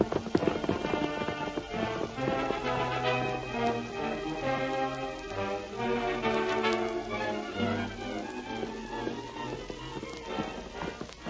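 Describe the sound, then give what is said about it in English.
The hooves of the horse Silver gallop in a steady, rhythmic clip-clop that carries on for several seconds, loud, with a dense musical backdrop playing underneath. “Come on, Silver.”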